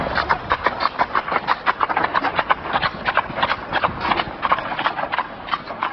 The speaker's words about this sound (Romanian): Da, am auzit căruțe cu zurgălei, cu clopoței. Da, de ce se pun clopoții aia? De frumusețe, așa e obiceiul.